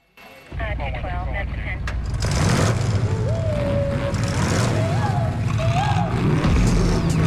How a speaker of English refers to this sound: Suddenly, the line of warehouse doors slides open, and a group of large, gleaming pickup trucks with bull bars on the front drive out, rolling over the police cars and shoving them out of the way.